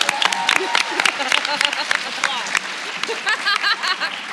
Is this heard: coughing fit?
no